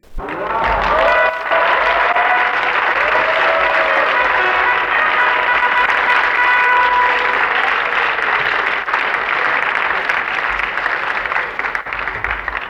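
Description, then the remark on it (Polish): A theatre audience at the Golden Masks award ceremony applauds steadily and loudly for over ten seconds, a dense, continuous wash of clapping from many hands with faint tonal sounds woven through it. “Dziękuję ogromnie za te brawa.”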